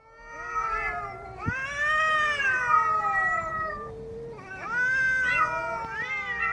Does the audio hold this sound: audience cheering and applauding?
no